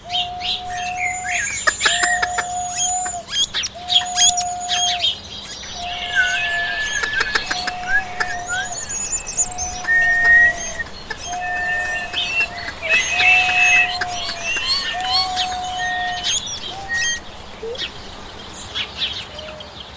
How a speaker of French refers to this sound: Le roi et les trois princesses régnaient sur la planète et sur ses habitants, des oiseaux de toutes sortes. Des condors, des cygnes, des éperviers, des étourneaux, des flamands, des hirondelles, des hiboux, des merles, des mésanges, des moineaux.